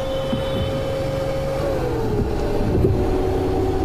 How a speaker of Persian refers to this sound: جلال سرعت رو زیاد میکنه. در منطقه سبقت ممنوع از نیسان جلوی سبقت میگیره.